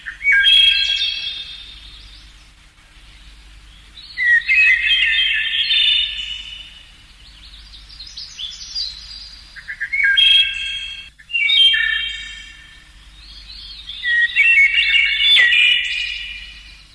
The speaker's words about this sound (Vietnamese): Một con họa mi tập hót, cất giọng hót những tiếng véo von vang lên trong khu vườn yên tĩnh.